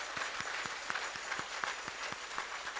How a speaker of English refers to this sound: And give a big applause to Jesus. In še enkrat zaploskajmo Jezusu. Aleluja.